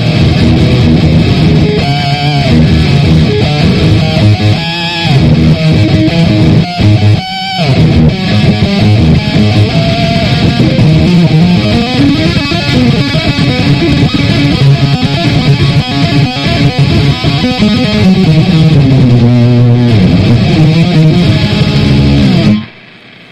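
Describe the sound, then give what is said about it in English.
Heavily distorted electric guitar, played through an iRig amp-simulator interface, plays loud, continuous chugging riffs with sustained chords for over twenty seconds, dense, with no voices, then cuts off abruptly. “a cord goes out from the iRig into your amplifier if you want to run like that”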